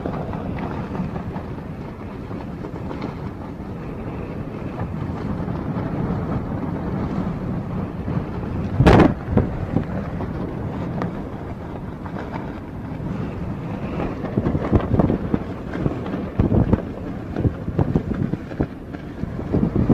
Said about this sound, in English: Listen to this wind.